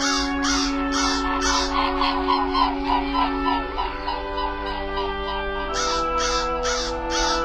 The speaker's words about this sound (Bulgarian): Я, колко много птици, колко са красиви. Снежно бели. И какви дълги, стройни шии имат. Колко високо се издигнаха и отлитат.